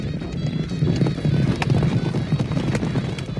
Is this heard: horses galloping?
yes